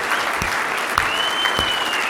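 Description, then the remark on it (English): A church crowd claps for their Savior in a steady, dense roar of applause, with a long high-pitched whistle cutting through partway and a few shorter whistles and shouts mixed in. “Come on, I need some whistles. A little louder.”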